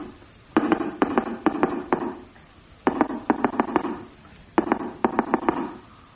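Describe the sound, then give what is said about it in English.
Knocking on a box: three quick bursts of sharp, hollow knocks, five or six raps in each, fairly loud and separated by short pauses, with no voices. “Just sounds like a chap knocking on a box.”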